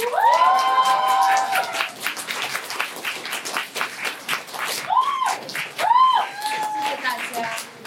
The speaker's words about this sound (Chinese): 接下来的一位演员呢是，他也是第一次来到我们的舞台，所以请大家来一起给他一些掌声。